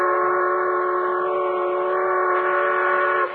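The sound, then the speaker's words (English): A supply train's whistle blows one long, loud, steady blast, held for about three seconds before cutting off abruptly. No voices are heard. “You think they see you? Of course they do. And if they didn't, they could hear us.”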